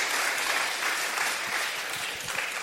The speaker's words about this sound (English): Thank you. Let's give him a hand. Speaking of applause.